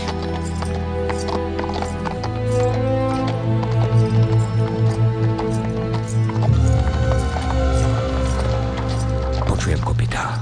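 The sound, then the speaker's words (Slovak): Horses gallop toward the Bruinen ford with Black Riders behind, rapid, repeated hoofbeats clip-clopping, steady and fairly loud, layered over a sustained, droning musical background that swells midway through. “Cítim, že čierni jazdci sú za nami.”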